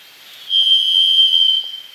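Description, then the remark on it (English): A varied thrush sings one long, steady, high whistled tone that holds for about a second, clear and resonant, then stops. No other sounds or voices. “the easy one is the varied thrush”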